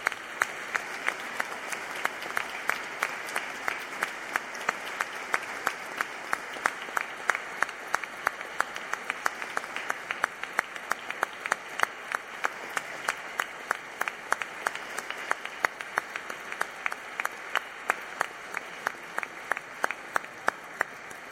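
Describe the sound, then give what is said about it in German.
An audience applauds the instrumentalists and singers during an Easter church service, a steady wash of many hands clapping with sharper individual claps standing out, sustained at even strength for about twenty seconds with no talking. “Sie haben einen Applaus für mich.”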